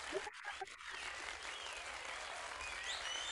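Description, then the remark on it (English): Dense, steady applause from a crowd fills the whole stretch, with scattered cheers and whoops rising above the clapping, fairly loud throughout. “Enough with the cheering already.”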